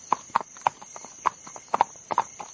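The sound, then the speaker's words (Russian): Horse hooves clip-clop at a steady trotting pace as a horse-drawn carriage (a britzka) pulls away, about nine crisp hoof strikes in quick succession, clear, with a faint steady hiss in the background and no voices. “Дениска ахнул на лошадей, бричка взвизгнула и покатила, но уж не по дороге, а куда-то в сторону”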